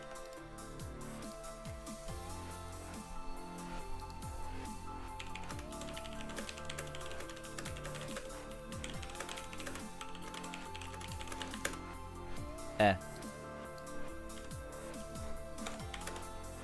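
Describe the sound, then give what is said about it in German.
Steady, rapid typing on a computer keyboard with an English layout, a continuous patter of key clicks with brief pauses and one sharper knock near the end, no voices. “Ich habe englische Tastatur-Layout.”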